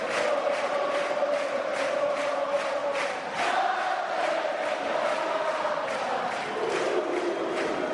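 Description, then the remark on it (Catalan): A large crowd of the Castellers de Vilafranca shouts together in a loud, sustained final war cry, voices roaring continuously for several seconds with rhythmic surges. “Aquest crit de guerra final, aquest dels Castellers de Vilafranca”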